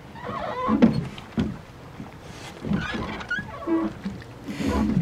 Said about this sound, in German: Sitzen Sie gut? Dann rudern wir mal los.